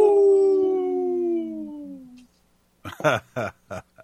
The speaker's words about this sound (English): Howling for Wolves, protecting wolves for future generations. Oh! Howl.